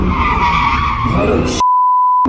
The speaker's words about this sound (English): They are shocking videos from early Sunday morning. Crowds of people gathered watching cars doing donuts in the middle of the intersection at Libby and Patterson Avenues. This is on Libby and Patterson.